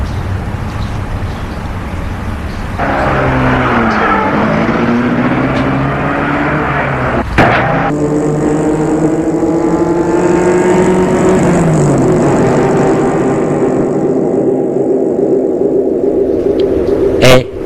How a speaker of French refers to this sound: Il va prendre sa voiture pour filer.